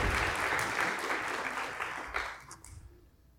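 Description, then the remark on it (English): A church audience applauds a visiting reverend, a dense wash of many hands clapping at once, loud and steady before thinning out and fading toward the end. “If you'll give applause for what God has done in his life.”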